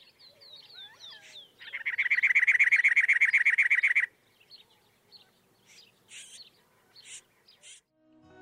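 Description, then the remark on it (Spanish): A Yucatan wren (Campylorhynchus yucatanicus), an endemic bird of a coastal zone, gives a loud, harsh rhythmic chatter lasting a couple of seconds, preceded by thin whistled chirps and followed by scattered short calls, clear with no talking. “esta zona también viven animales endémicos que igualmente corren peligro de extinguirse, como la lagartija escamosa de Cozumel, Celoporus cozumeli, y aves como la matraca yucateca, Campylurhynchus yucatanicus, y el colibrí cola hendida, Dorica elisa.”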